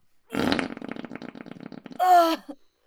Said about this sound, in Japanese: ほらご待望のおならですよ。どうですか、ゼロ距離で塀こかれた気分は。濃厚な臭い塀が一気に鼻に流れ込んでくるでしょう。